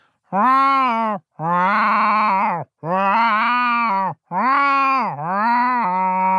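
cat meowing

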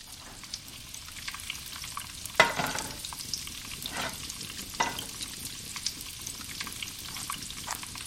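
onions frying

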